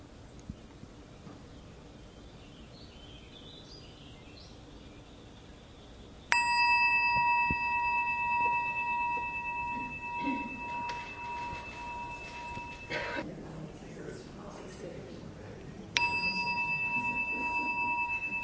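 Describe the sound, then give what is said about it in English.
A meditation bell rings out clearly, its steady harmonic tones sustaining for several seconds before fading, then strikes again near the end over a quiet background. “So just as the bell rings, you might explore the becoming now.”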